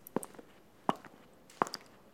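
Water drops falling one at a time: three soft, sharp plinks at a slow, steady pace, each with a faint quick echo-drip after it, quiet and with no voices.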